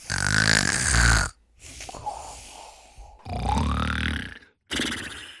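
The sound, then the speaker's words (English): A person vocally imitates Goofy's exaggerated cartoon snore: a loud, raspy inhale-and-exhale pattern in three bursts with short pauses between, without any talking. “How does the goofy snore go?”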